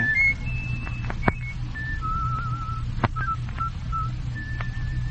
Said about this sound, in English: Can you whistle that? Oh, you are whistling.